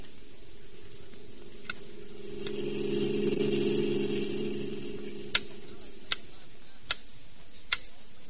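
A metronome in a music shop ticks at a steady, even pace, its clicks faint at first and then sharp and distinct, over a low continuous hum that swells and fades in the background.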